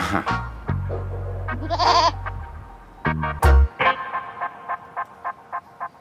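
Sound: goat bleating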